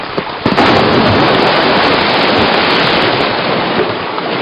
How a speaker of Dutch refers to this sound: De dijk breekt door. Onheil en water op mijn pad. Het water had zo'n kracht dat de smalle dijk inderdaad voor een groot gedeelte instortte.